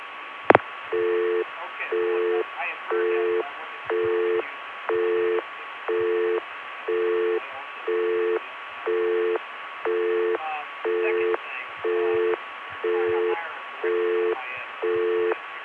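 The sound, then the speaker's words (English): A telephone busy signal beeps in a steady on-off rhythm, about one tone per second, with faint murmuring room chatter audible in the background throughout. “Here's that busy signal, which if you listen carefully, has the sound of people talking in a room in the background.”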